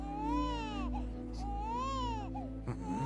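An orphaned infant cries in two long, wavering wails with short gasping breaths between them, fairly loud, over a low steady background hum.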